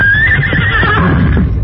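Silver, the Lone Ranger's horse, whinnies loudly in defiance as he senses danger ahead at the top of a rise: a shrill, wavering neigh that rises then trails off over a low rumbling background, with no one speaking.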